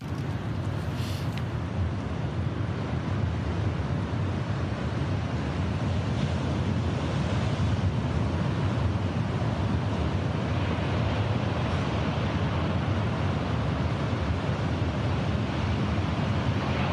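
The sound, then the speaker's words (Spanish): Sea waves wash steadily onto the shore at dawn in Donosti (San Sebastián), a continuous, full roar with a broad rumbling low end and soft hiss, with no voices. “Este es un amanecer a la orilla del mar, en Donosti”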